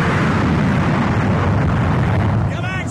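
Jet engines of a plane hooked onto the catapult on an aircraft carrier deck roar loud and steady through takeoff, a dense, rumbling wall of noise heavy in the low end, with a rising whine creeping in near the end.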